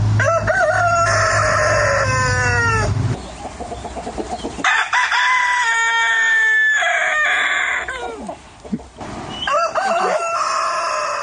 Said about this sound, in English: The sound of crowing roosters, is this what you heard? Correct. Was it as loud and upsetting and annoying as that? Absolutely.